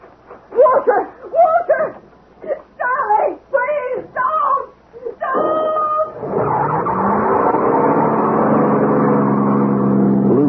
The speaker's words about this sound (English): Drowned by the roar of the engine.